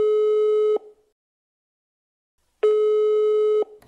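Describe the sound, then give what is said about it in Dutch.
A telephone line tone sounds as a call goes through: two steady, buzzy electronic beeps, each nearly a second long, separated by a silent pause of almost two seconds, clear and alone. “Aan de telefoon heb ik op dit moment Jezus Christus, the one and only.”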